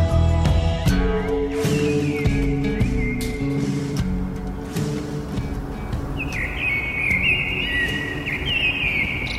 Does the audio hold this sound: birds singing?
yes